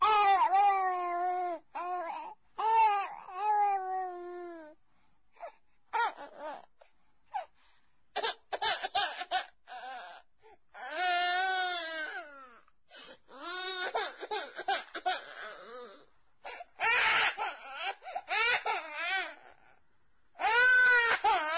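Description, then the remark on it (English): A child cries in repeated high, wavering wails and sobs, some long and drawn out, broken by short gasping pauses, fairly loud throughout with no one speaking. “Which sound is more disturbing, the crying child or the total absence of footsteps from anyone coming to help?”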